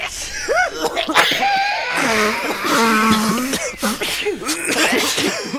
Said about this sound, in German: Ja, wo man im Moment auch anschaut und hört, da schnuddert es, niest es, schnüst es und hustet es. Die Grippewelle, die hat unser Land fest im Griff